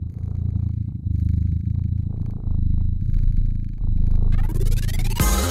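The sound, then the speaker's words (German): Synthesized cat purring from a purr generator with adjustable bass, treble, mids and purriness: a steady, low rumbling purr with a continuous rhythmic texture, loud, pulsing gently for several seconds before breaking into a brief burst of bright, harsh noise at the end. No voices. “Ihr könnt den Bass einstellen, die Höhen, die Mitten, die Schnurrigkeit und euch dann einfach beschnurren lassen.”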